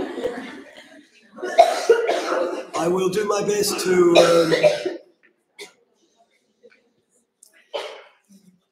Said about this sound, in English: don't get me coughing now, ladies.